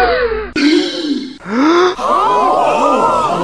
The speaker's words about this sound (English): You may well gasp, but this will always be a news nugget.